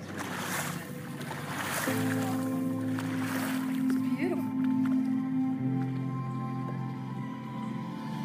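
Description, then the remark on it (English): A rented motorboat cruises steadily across a lake as smooth as glass toward the other side, its engine a constant humming drone with a pitch shift partway through, over rushing water and wind noise, with indistinct voices in the background. “And the last full day of the trip, we rented a boat to go to the other side of the lake.”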